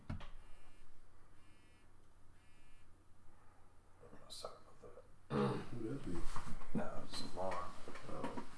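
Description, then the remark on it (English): A faint electronic alarm, set for 1:30, beeps in repeated bursts for several seconds, then louder voices start talking and partly cover it. “You got your alarm going off at 1:30.”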